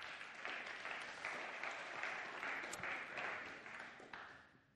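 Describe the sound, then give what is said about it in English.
A church audience claps steadily for several seconds as a longtime member and colleague is welcomed up onto the stage, a dense, sustained wash of applause that stays fairly even before tapering slightly at the end. “Give her a clap.”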